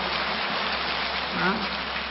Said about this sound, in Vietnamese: Tốt thì đương nhiên phải một tràng pháo tay thật to chứ.